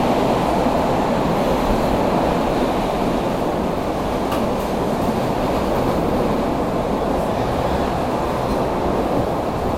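train running on rails

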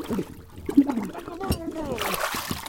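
water splashing

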